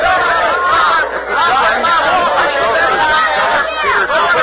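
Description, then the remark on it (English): A crowd chatters excitedly, many overlapping voices forming a loud, steady babble with no single words standing out, sustained throughout, as the crowd urges Peter Cooper to accept a challenge to race his Tom Thumb locomotive against a mare into Baltimore. “The crowd seems hugely pleased with this idea. They're begging Peter Cooper to accept.”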